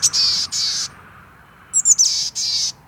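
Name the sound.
chickadee calls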